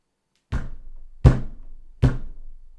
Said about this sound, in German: Oh, das klingt dann doch sehr nach Nikolaus. Der klopft immer so.